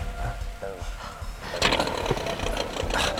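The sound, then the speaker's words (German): A motorboat engine chugs with a steady low rumble at a jetty at night, then revs up louder and rougher about halfway through as the boat, boarded by two figures in diving suits, starts moving off. “Sie klettern auf ein Motorboot.”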